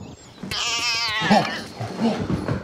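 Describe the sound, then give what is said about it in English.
A calico house cat lets out one long, wavering meow, fairly loud, followed by a couple of softer, shorter mewing sounds. “Oh, it was like a, it was a calico.”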